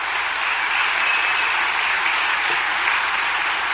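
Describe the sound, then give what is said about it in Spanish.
A large crowd claps loudly and steadily in applause to the Lord, a dense wash of applause from many hands that fills the whole moment without any voices rising above it. “Un aplauso fuerte al Señor.”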